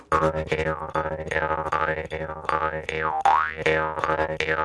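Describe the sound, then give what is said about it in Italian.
A jaw harp twangs in a fast, driving techno-like rhythm, played by mixing taps on the reed with the breath; its buzzing drone wahs up and down with sweeping vowel-like pitch glides and sharp plucked accents, loud and steady with no voices. “E la cosa interessante è che poi puoi andare a fare dei giochi tra colpetto sulla lamella e il respiro, quindi andare anche a fare dei ritmi un po' stile techno, tipo...”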